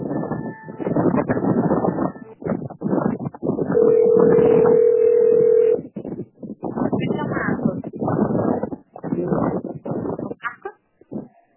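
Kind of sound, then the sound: signal or alarm, phone line ringing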